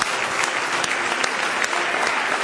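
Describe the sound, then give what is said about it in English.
A church audience at a Wednesday night meeting breaks into steady, sustained applause as praise to God, many hands clapping together in a dense, bright wash of noise with no voices standing out. “Let's give Him a big hand clap of praise tonight.”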